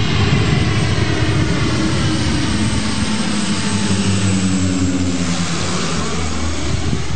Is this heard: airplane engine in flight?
yes